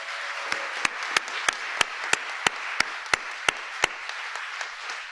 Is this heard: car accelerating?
no